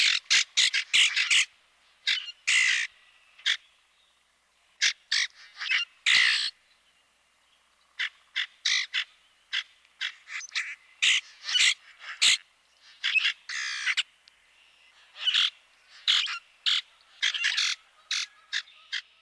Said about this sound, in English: While this species will never win any prizes for singing, his vocalization is a useful one to know. Here's the common grackle one more time.